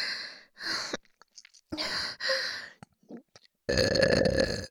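A string of loud, throaty burps after drinking a lot of carbonated water, roughly four, separated by short pauses and small breathy noises, ending in one long, drawn-out belch. No talking.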